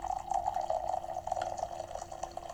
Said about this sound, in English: Don't you just love pouring a fresh cup of coffee?